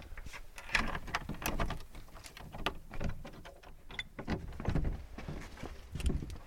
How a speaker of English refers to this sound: Let's go in through the door.